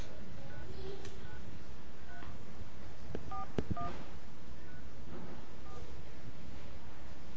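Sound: telephone keypad dialing tones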